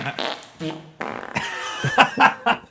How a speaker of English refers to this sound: Just the fart sounds.